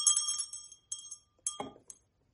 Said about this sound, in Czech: Zvoní i skleněný.